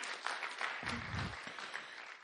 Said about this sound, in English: I want everyone to turn around, and I want her to wave her hand. There you go. There you go. Let's give her a clap, okay? Let's give her a clap.